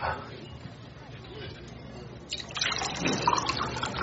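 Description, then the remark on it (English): Water pours into a glass, a steady splashing trickle that starts partway through and grows louder and brighter as it fills, with faint background murmur underneath. “But yeah, I'll take some water.”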